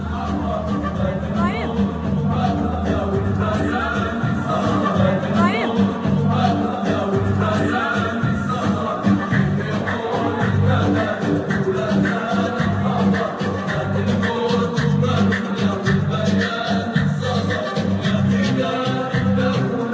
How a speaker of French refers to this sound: c'est le cortège funèbre, ils vont aller le mettre en terre là.